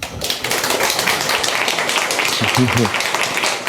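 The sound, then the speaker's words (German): Sustained audience applause welcoming a talk on gaming on Linux, a dense crackle of many hands clapping at steady loudness throughout. A voice murmurs briefly underneath near the end. “Einen am großen Applaus, bitte.”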